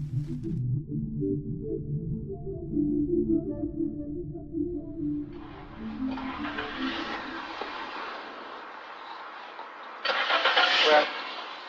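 A Ford Fiesta's engine hums and rumbles steadily at an industrial parking lot in Högsbo outside Gothenburg, Sweden, then gives way to a louder, hissing wash of outdoor noise, like a vehicle moving or wind and traffic.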